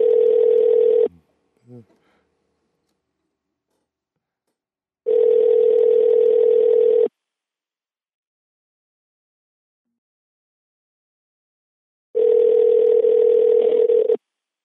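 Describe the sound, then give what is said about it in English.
A phone rings out on an unanswered outgoing call that goes to voicemail: three steady ringback tones, each about two seconds long, separated by long silent gaps, with a couple of faint clicks after the first ring. “So if he doesn't answer, let's play.”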